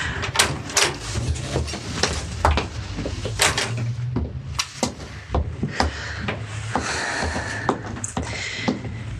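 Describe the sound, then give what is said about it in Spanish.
A gate door of a country estate (quinta) is pushed open, with a series of sharp metallic clicks, rattles and scraping creaks over a low rumbling background, no voices. “Será la primera quinta que tenga que abrirme la puerta.”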